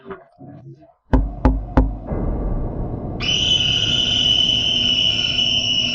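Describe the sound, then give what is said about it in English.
A woman leaning out of a window knocks three sharp times on the window glass in quick succession, followed by a steady background hiss and a high, continuous cricket-like trill. “This person who looked exactly like Anna approached the window, leaned out, and then knocked on the glass.”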